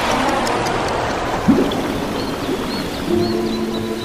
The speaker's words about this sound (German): Wir sind am Ufer eines Baches gelandet, mitten in einem Wald. Der Bach sah tief aus und ziemlich wild.